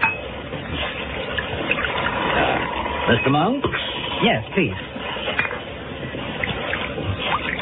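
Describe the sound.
Wine trickles into glasses amid soft clinks of tableware, a steady liquid hiss running beneath a short spoken question and reply.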